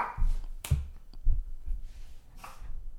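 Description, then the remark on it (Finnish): A dog huffs sharply and angrily through its nose a couple of times, short breathy bursts separated by soft low thumps and near silence. “Koirakin tuhahti vihaisesti.”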